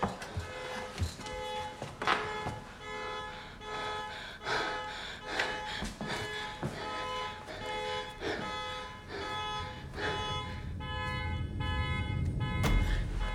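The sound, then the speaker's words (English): A car horn, set off by pressing a key fob, sounds with a bright, sustained honking tone that repeats and persists, punctuated by sharp clicks and thumps, fairly loud, with low rumbling beneath toward the end. “opens the door, reaches outside, and presses the fob again. The killer looks round on hearing the noise”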